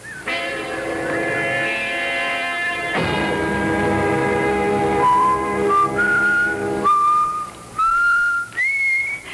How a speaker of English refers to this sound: Do you have to whistle like that all the time?